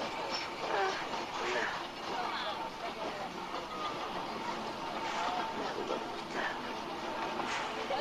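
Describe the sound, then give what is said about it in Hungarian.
A train pulling out of a station, with a steady rumbling, clattering wash of noise that holds at a constant level throughout, and faint indistinct voices mixed into the background. “ért a vonatokhoz! Mindjárt megy a tietek is!”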